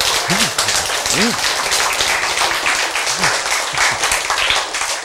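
An audience applauds on the speaker's call, clapping steadily for about five seconds, a dense, even wash of many hands clapping, with a few brief vocal exclamations rising through the noise near the start.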